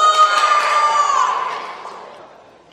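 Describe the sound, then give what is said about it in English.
A group of children, the Brontosaurus team, roar together in imitation of a Brontosaurus, a loud, high-pitched, sustained collective shout that gradually fades over about three seconds. “Can I hear the Brontosaurus team roar?”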